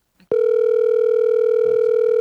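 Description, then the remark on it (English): A loud, steady electronic telephone ringback tone on an outgoing call to a mother, holding one unbroken pitch for about two seconds, with faint muffled voices briefly underneath. “Can you hear it ringing? Yeah, I can hear it.”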